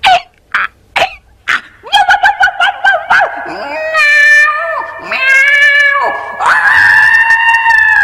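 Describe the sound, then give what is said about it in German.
A single voice imitates a donkey, dog, cat and rooster starting to make music together: a few short barks, a rapid braying stutter, then long wavering meows and a drawn-out rooster crow, loud. “Und dann hat der Esel gesagt, 1, 2, 3. Und die 4 haben angefangen, ihre Musik zu machen.”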